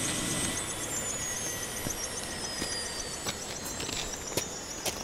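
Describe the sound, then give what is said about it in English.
A helicopter engine is shut down and winds down, its high turbine whine sliding steadily lower while slow, spaced rotor thumps tick over a constant mechanical rumble, with no voices. “We have more people still in the bird. I can have them... Stay there, Sergeant. Hey, you, shut it down. Kill it. You're wasting fuel.”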